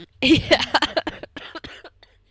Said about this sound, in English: And every time I laugh, it turns into, like, a violent cough. So, I'm really sorry about that. I'll try to avoid laughing.